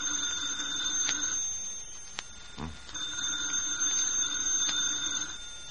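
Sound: telephone ringing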